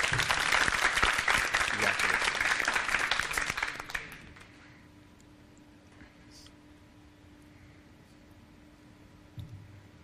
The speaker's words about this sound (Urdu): ان کی حوصلہ افزائی کیجیے گا زوردار تالیوں کے ذریعے.